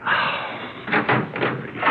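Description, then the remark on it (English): A door in an apartment building is opened on its chain, with a few metallic rattles and knocks over a steady background hiss, and no one speaking. “Well, take the chain off and let me in.”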